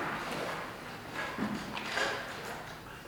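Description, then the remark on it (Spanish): A door is opened or closed during a formal meeting session, with a couple of soft knocks and a brief scrape over a low, steady background hiss. “¿Para qué la puerta?”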